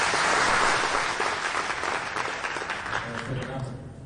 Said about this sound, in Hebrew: מחיאות כפיים